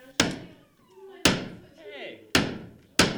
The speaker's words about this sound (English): So that's what you need the hammer for. Teamwork.